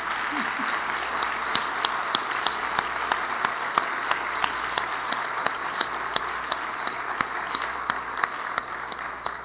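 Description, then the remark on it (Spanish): An audience applauds a family at a Christian church service, many hands clapping in a dense, continuous patter with sharp individual claps standing out, sustained at an even, fairly loud level throughout. “¡Un aplauso a esa familia!”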